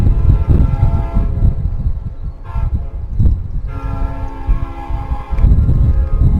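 A train rumbles past during a film shoot at sunset with a heavy, continuous low-end roar, and a sustained horn blast sounds in the middle of the pass before the rumble swells again.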